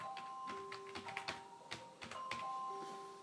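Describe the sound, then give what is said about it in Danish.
Someone types an email on a keyboard in quick, irregular bursts of clicks, while a steady electronic ringing tone hums in the background. “Prøv lige at skrive din mail der, fordi så vil jeg sætte på dig.”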